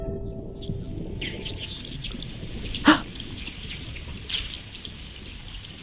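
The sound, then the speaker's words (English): Underwater hydrophone recording of thousands of herring swimming beneath a boat at a fishing trap: a dense crackling, hissing texture with scattered high chirps and a couple of sharper squeaky bursts standing out, no voices present. “It was just this cacophony of herring.”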